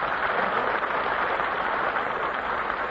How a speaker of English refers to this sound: Oh, thank you. Thank you very much, ladies and gentlemen. Your applause is wonderful, but I tell you what, instead of applauding tonight, let's everybody hiss.